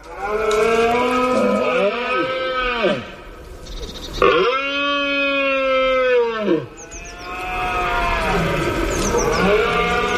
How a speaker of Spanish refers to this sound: Por ejemplo, sabemos que los ciervos berrean.